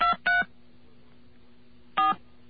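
Three short touch-tone dialing beeps as a telephone number is dialed live, two in quick succession and a third after a pause, each a loud steady dual-pitched tone over a low constant hum.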